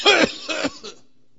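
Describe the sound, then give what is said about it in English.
Three harsh coughs in quick succession, the first loudest and the last short and softer, demonstrating how a non-smoker coughs on walking into a room full of smoke, followed by silence. “pretty soon it smells pretty good. and they're not coughing anymore”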